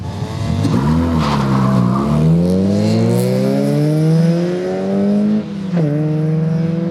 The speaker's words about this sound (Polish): Pisk opon to jest to, co człowiek kocha najbardziej.